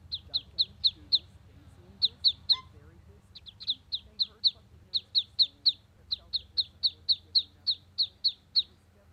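Four freshly hatched ducklings beside a hen house peep in a rapid, steady string of short, high-pitched calls, fairly loud, briefly pausing twice, over a faint low rumble in the background.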